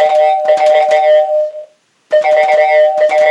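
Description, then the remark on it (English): A loud electronic phone ringtone plays a bright, pulsing tonal pattern, stops briefly, then starts ringing again. No one speaks. “Hang on. Someone's on the phone.”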